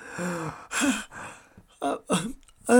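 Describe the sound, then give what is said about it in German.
A voice acts out a drawn-out yawn, fairly loud, breaking into several breathy, groaning pushes with short pauses between them. “Max gähnte.”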